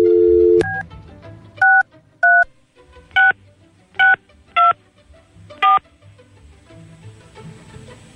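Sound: telephone keypad dialing tones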